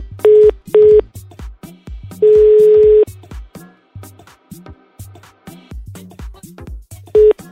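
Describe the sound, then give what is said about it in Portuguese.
Loud, steady telephone line beeps after a dropped call from a caller's phone in Belo Horizonte to the Jovem Pan radio show Missão Impossível: two short tones, one longer tone, then another short one, over a faint, low, rhythmic background. No one speaks. “caiu a linha, pô.”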